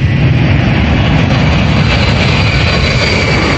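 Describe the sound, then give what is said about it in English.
A jet airplane roars down the runway on takeoff, a loud, steady engine rumble with a high whine threaded through it, continuous with no voices. “Now, a plane takes off from a runway.”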